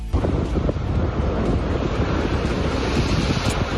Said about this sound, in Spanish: Sonido de las olas y el viento frío. En las últimas horas en la costa ferrolana de Doniños